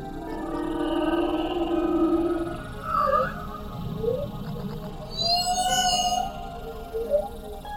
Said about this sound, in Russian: А вот и наш знакомый, синий кит-полосатик.